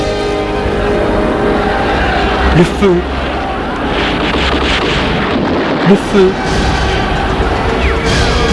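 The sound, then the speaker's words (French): Explosions and heavy gunfire rumble through a dense, continuous roar, with a couple of sharper booms standing out around the three and six second marks. Muffled voices are faintly mixed in. “Le feu, il entend les explosions, le feu, les flammes, les gens qui courent de toutes parts, qui hurlent, et tout se sent.”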